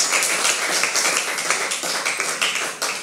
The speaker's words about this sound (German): Und falls ihr dürft, ich weiß, was die Corona-Regelungen mittlerweile sind, jedes Mal ist neu, dürft ihr jetzt mal eurem Jugendpastor einen fetten Applaus geben, hier und auch in den Screen.